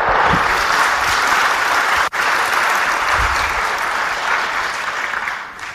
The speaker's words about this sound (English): Let's give Caroline a very large round of applause.